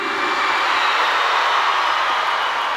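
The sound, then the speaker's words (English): The women in an audience scream together on a performer's call, a loud, sustained, high-pitched roar that holds steady for a few seconds without any break or spoken words. “Now, I want all the ladies to scream.”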